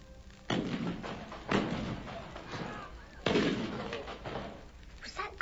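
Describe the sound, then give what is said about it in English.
Three deep cannon booms fire one after another at uneven intervals, each rolling off into a long, echoing decay, with a fourth blast starting just as the sound cuts off; the cannon is firing a warning of an escaped convict. “There was a corn whipped off last night after sunset gun and they fired warning of him.”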